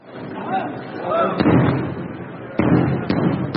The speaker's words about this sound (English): He said those are booms of Israeli bombing nearby, and he was watching the wounded being wheeled in.